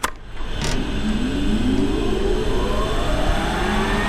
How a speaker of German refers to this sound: Und was Sie dann hören, ist ein fürchterliches Rauschen, aber das ist nur das Gebläse, was das von hinten kühl hält.